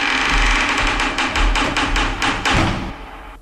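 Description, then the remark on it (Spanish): A door being opened: a rapid run of loud, sharp rattling clacks and knocks for about three seconds, with low thuds underneath, then a quieter tail. No one speaks. “aquí un sonido, el sonido de la puerta.”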